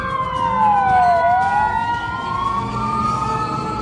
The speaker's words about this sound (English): There's a fire engine now coming the other way along the street. It appears that today definitely is a noisy day in Boston.